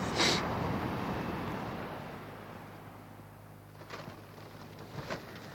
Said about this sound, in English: Oh, a port in a storm. It's pouring with rain, the wind is wild, and I've found shelter in a beautiful Kyrgyz yurt.